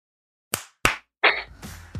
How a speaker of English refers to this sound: I am at time.is, and we just pick a second to clap on so we can line up our audio and post. Okay. I've never heard of this. Okay, awesome. All right, let's clap on 32.